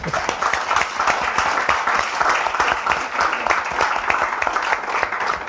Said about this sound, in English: I think, can we have a round of applause for that?